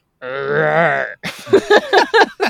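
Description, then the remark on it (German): A person imitates the deep, drawn-out grunt of what may be a hippopotamus for about a second, a strained, droning voiced sound, followed by a few quick spoken syllables. “Und eben das Grunzen, das wir gehört haben, wo wir denken, das ist vielleicht Nilpferd.”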